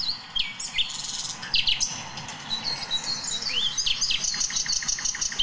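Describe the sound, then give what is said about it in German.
Songbirds, including a thrush nightingale, chirp and warble together, with a robin's thin, tumbling song audible in the background amid a low, steady rumble of background noise. “Und ein Rotkehlchen im Hintergrund.”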